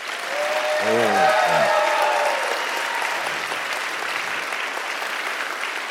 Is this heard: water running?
no